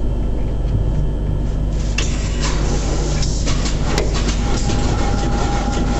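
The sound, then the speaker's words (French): A big diesel engine salvaged from a German World War II U-boat submarine runs steadily, a loud, dense low rumble with constant mechanical clatter and a faint whine layered on top, with no voices. “Maintenant donc que le moteur diesel est en route, on va faire un petit tour autour du lac”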